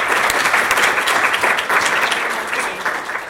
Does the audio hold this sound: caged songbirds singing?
no